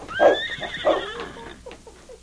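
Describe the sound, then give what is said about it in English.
A horse, Blackie, whinnies outside a cabin: a loud, shrill, quavering neigh that pulses in several bursts, then trails off into softer, lower snorts and breaths over about two seconds, with no talking. “no horses were tethered outside the cabin”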